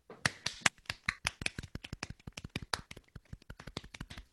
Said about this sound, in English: Let us clap and cheer.